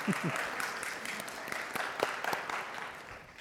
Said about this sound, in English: Round of applause for